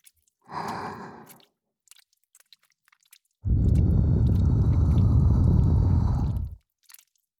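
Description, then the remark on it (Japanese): A soft breathy exhale, then about three seconds of loud, continuous wet squelching, like slick lotion being worked between hands. No one speaks. “ローションのぐちゅぐちゅっていやらしい音と、”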